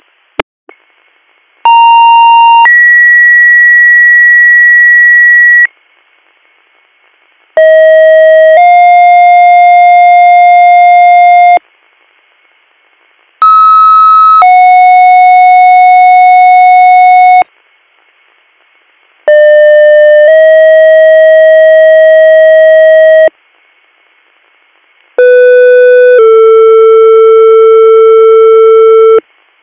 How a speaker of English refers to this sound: Stand by for second due tones for CVA Union Township.